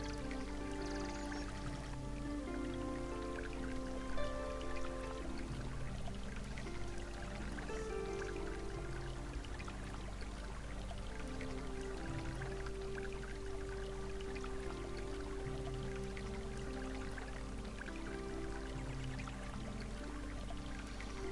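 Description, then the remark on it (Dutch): A small brook beside a hiking path flows steadily and continuously, an even, unbroken wash of burbling sound, blended with soft sustained tones in the background. No one speaks. “Je volgt nog steeds het pad langs het beekje en je nadert nu de boomgrens.”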